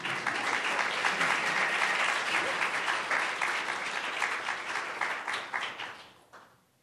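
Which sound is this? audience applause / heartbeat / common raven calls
audience applause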